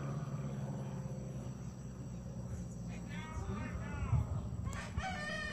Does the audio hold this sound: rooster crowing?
yes